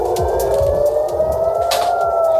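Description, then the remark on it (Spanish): A loud air raid siren in Israel, sounding after a state of emergency was declared during Iran's response to an Israeli attack, wails in one long sustained tone that slowly rises in pitch, with faint rhythmic low thumps and outdoor rumble beneath it. “Suenan las sirenas antiaéreas después de que se haya decretado el estado de emergencia.”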